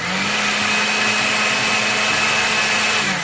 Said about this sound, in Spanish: Agregamos la leche y procesamos hasta obtener una mezcla espesa y cremosa. Ahora, si tú cuentas con una moledora de granos, es momento de utilizarla. Como yo no tengo, utilizaré una licuadora.